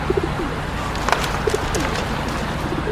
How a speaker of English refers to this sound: And here are the pigeons.